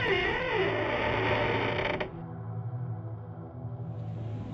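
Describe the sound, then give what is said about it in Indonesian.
A door creaks open slowly at about 1 a.m., after repeated knocking, with a drawn-out, groaning wooden squeal, then gives way to a low mechanical rumble that lingers. Fairly loud, with no talking. “Dengan males-males, rada kesal juga, sambil ngantuk, gue buka pintunya.”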